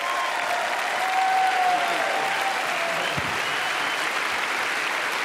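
A large crowd at James River Church applauds steadily and loudly to cheer on a guest speaker coming up, a dense wash of clapping with scattered cheers and whoops rising over it, sustained without pause for several seconds.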